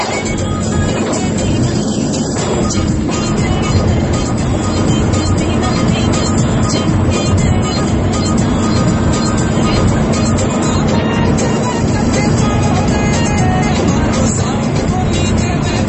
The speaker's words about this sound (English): So the students wanted music in the bus, and they wanted, like, you know, dance music. So that was what was going on. It was fun.